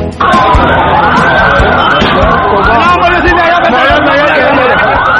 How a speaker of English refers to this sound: The sounds of yesterday's Easter bombing in Pakistan by the Taliban.